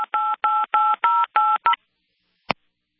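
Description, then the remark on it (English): A rapid run of six telephone keypad tones from a caller on a call-in line pressing too many buttons, each a steady two-pitch beep, followed by a brief final beep, silence, then a sharp click as the line cuts out. “We lost him. He was punching too many buttons there.”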